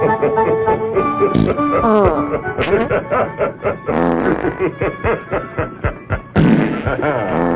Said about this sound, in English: But first, we're going to have a little fun tonight, folks, with Santa's Fart Factory.